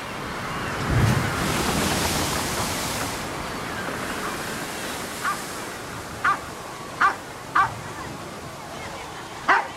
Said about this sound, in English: The tugboats splash. The tugboats splash. In the wild, wet Wellington wind.